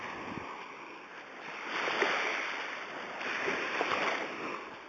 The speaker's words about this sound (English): I thought walking along a beach, hearing the waves rolling up, would be a cool piece of ambient noise. So there you go.